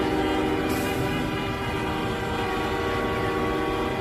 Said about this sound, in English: All night. Constant noise. The entire city is gridlocked. It's the middle of the night. And these assholes just keep honking.